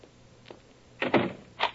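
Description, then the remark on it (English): A door is shut and locked: a few short knocking clunks followed by a heavier latch-like thud and a final click, fairly quiet, with no voices. “Would you mind standing here until you hear me lock my door?”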